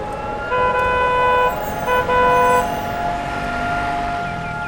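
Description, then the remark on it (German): A steady, sustained Holocaust Remembrance Day (Yom HaShoah) siren tone drones over city traffic in Tel Aviv, Israel, at Rabin Square, swelling louder twice in the first half before holding level. No one speaks. “Doch sobald die Sirene erklingt, wird alles stillstehen.”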